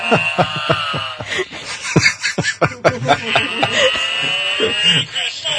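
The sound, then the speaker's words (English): A novelty ugly sweater with a big cow on it plays an electronic cow moo, a buzzy, tinny, sustained tone with rich harmonics, mixed with sharp clicks and rustling, jingling handling sounds throughout. “It's a big cow on my ugly sweater.”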